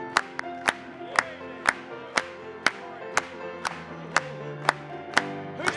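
A crowd claps in praise of Christ after a hymn, in a steady, even rhythm, about two claps per second, over sustained instrumental music, with a faint murmur of voices in the background.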